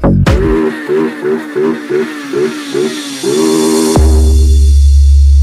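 A motorcycle engine revs loudly in a rapid series of short, rising bursts, then settles into a steady roar under a deep low rumble.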